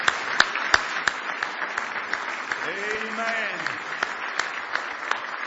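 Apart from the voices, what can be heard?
audience hand clapping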